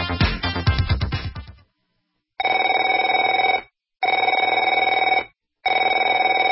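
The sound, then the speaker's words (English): A telephone rings loudly with no one speaking: a rattling, clangy first ring, then three steady, shrill electronic trills of equal length separated by short silent pauses. “Afraid to answer it?”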